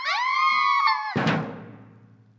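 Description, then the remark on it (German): People in a castle scream at a laughing ghost: a high, sustained scream rings out for about a second, then is cut off by a sudden loud, noisy burst that slowly fades away. “Die Leute im Schloss schreien.”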